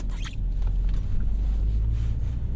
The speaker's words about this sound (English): The car feels a bit laborious this morning. I find that this car takes ages to... Bloody hell, matey boy. I don't want to cut the corner anymore. This car takes ages to warm up. Ages.